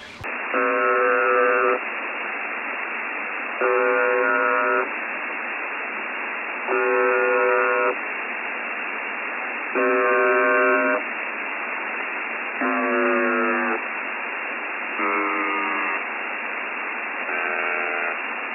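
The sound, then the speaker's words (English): A faulty buzzer breaking down on April 7th, one of six breakdowns that day, sounds seven evenly spaced blasts over a steady background hiss, each lasting about a second. The later blasts waver and sag in pitch as if winding down, all with a thin, tinny tone. “On April the 7th, the buzzer started to break down, and we've had several breakdowns since then, breaking down 6 times in total on April 7th, and we'll play you the sound of the buzzer breaking down right now.”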